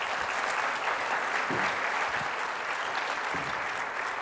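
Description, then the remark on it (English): Sustained applause from a church audience for a speaker after a prayer, a dense, steady wash of many hands clapping at even loudness throughout, with no voices rising above it. “Would you give Heidi a round of applause?”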